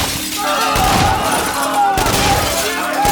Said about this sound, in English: as he fired his machine pistols into the ceiling. Fluorescent light fixtures burst under the assault of lead like fireworks, showering the crowd with fine bits of glass and plastic.